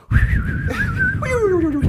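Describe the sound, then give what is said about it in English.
Someone imitates the pet Munchie snoring: a steady raspy rumble runs beneath a thin, wavering whistle that ends in a long downward-sliding whistle, with no talking. “Can you do Munchie's snoring sound?”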